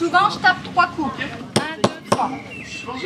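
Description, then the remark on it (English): People talk briefly, then a stonemason drives a chisel into stone with a hammer, three sharp, ringing metallic strikes in a steady rhythm, fairly loud, while faint voices continue in the background; she is showing a group of students how stonemasons used to work. “She says she mainly works with tools that were available in the 12th century: chisels and hammers.”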